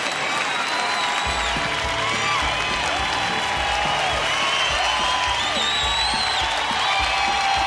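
crowd applauding and cheering

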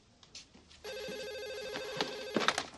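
telephone ringing

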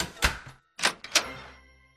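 door

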